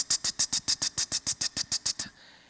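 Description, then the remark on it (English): Rapid typing on a computer keyboard: about fourteen crisp, bright clacks in a quick, very even rhythm, heard alone with no voices, stopping abruptly after two seconds. “Every time I called him, he was typing on his computer, paying no attention to me at all.”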